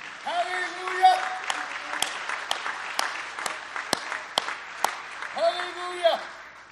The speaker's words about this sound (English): Let's clap our hands for the house of the Lord today, shall we?